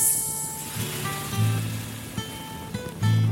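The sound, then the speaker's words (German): Fat drips from sausages on sticks held over a campfire and sizzles on hot coals, a steady crackling hiss broken by sharp pops and spits, with no voices. “Die Würste auf Stöcke aufgespießt und über dem Feuer gehalten. Das Fett tropft auf die heiße Kohle und macht.”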